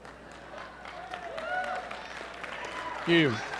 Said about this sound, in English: Thank you. Just remember, your random, incredibly uncontrollable applause will only lengthen my speech. So you may want to contain that a little bit.